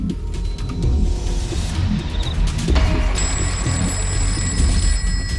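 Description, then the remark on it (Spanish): A telephone rings repeatedly with no one picking up, its bright electronic tone sounding steadily over a low rumbling background hum. “Hablaban muy a menudo, pero esa vez nadie respondió al teléfono.”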